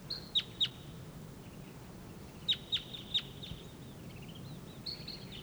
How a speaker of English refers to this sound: There's another wild bird up in the treetop.